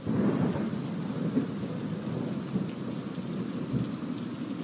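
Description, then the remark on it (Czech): Heavy rain pours steadily in a dense wash of noise while deep thunder rumbles low and continuously beneath it, a full stormy soundscape with no voices. “Za několik dní v noci hrozně pršelo a byla i bouřka.”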